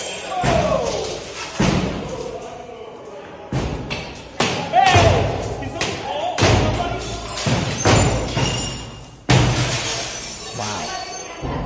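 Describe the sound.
Repeated heavy thuds and slams of people smashing against doors, with occasional glassy crashes as they shatter the glass, and a background of shouting voices, loud and chaotic throughout.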